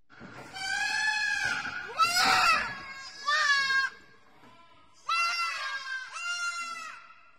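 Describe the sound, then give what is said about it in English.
Lambs scream and bleat loudly, a run of about five strained, wavering cries that overlap and crowd together, with a brief pause midway before the calling resumes. “This is the screams of lambs.”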